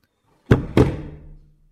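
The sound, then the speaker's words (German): A chair set upside down onto a classroom desk, the first of several chairs being put up: two hard wooden knocks in quick succession, fairly loud, followed by a brief hollow ringing that fades out, with no talking. “Na, da werde ich mal ein bisschen nachhelfen und die Stühle hochstellen.”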